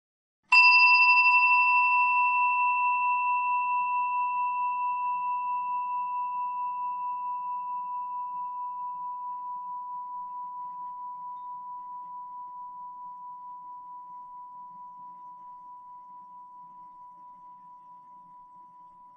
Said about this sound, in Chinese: 待会钟声响起的时候，我们便开始这个练习。